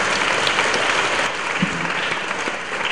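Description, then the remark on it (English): Sustained applause for Jesus from a large audience at a mass in the Czech Republic, dense and steady clapping filling the space at a fairly loud, even level throughout, with no voices standing out. “So let us give a clap for Takže zatleskejme Ježíši.”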